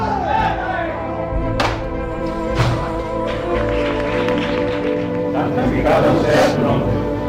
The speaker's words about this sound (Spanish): Impresionante el aplauso en el interior de la Basílica Mercedaria.